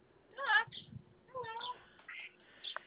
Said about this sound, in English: You think those are the same two ducks we see crossing the street all the time? I do. Those two ducks own the same hood.